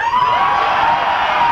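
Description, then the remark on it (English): An audience screams loudly and continuously to vote for a song, a dense high-pitched roar of many voices filling the whole moment with no pauses. “Oh, they didn't make the noise. They screamed.”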